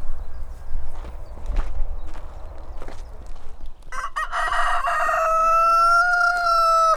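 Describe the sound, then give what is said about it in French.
A rooster lets out one long, loud crow, following a few seconds of low background rumble with scattered soft knocks and faint clucking from chickens of various local and ornamental breeds, in hot weather. “Différentes variétés de poules. Alors des races locales et des races d'ornement.”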